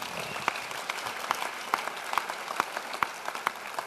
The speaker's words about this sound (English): Now you give the Lord a hand for that. Amen.